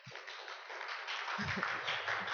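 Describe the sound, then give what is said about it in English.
A church audience breaks into steady applause for a pastor during a service, a dense wash of many hands clapping that holds at an even, fairly loud level throughout, with a faint low murmur underneath toward the end. “So in the first service, I said, Pastor Mark, let's give Pastor Mark a round of applause.”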